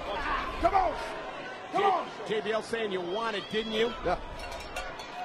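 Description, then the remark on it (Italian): Heavy thuds as wrestler JBL slams Eddie Guerrero onto the ring mat and locks him in a neck hold with the strap, a couple of dull impacts heard beneath continuous excited commentary from a man talking over the action. “JBL sbatte al tappeto Eddie Guerrero e poi lo blocca con una presa al collo con il laccio.”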